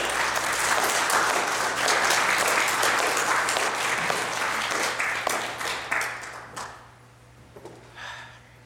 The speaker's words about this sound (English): We honor you, veterans, today. Thank you. Can we give our veterans and our serving soldiers one more round of applause?